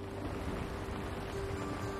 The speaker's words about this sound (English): They stand outside in the rain.